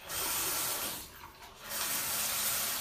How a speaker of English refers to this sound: See, we're getting water through the sink.